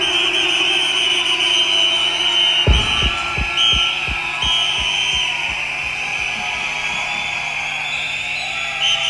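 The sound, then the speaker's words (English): A crowd at the largest festival in Europe blows whistles in a steady, shrill, overlapping din that runs throughout, while deep rhythmic thumps, like a bass beat, start pulsing underneath a few seconds in. “Let me hear the whistle crew now.”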